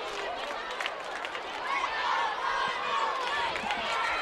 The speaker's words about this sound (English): Kids chanting, "Let's go, Ronnie." Down in the seats.